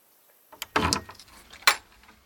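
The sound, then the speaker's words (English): A key clicks and rattles in the lock of a locked garden door, followed by a longer scraping, clattering burst, then a sharp latch clack as the door swings open. No voices. “Mary took the key from her pocket and opened the door.”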